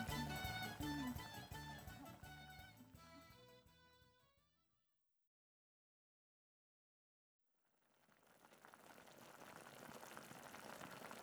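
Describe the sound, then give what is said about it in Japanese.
A tonal, musical passage fades into a brief silence, then a steady bubbling hiss of a Japanese hot pot with meat simmering on the stove rises and continues, moderately loud. “なあ、私が大事に煮込んでたお肉。”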